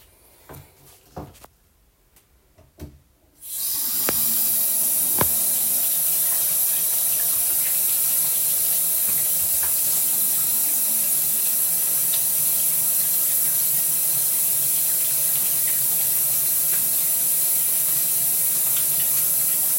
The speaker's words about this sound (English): Let me wash my hands.